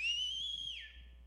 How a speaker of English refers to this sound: And I sat down over there, and before I knew it, I let out with a whistle.